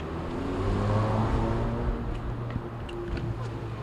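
passing road traffic

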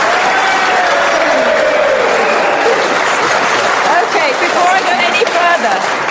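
audience cheering and applauding

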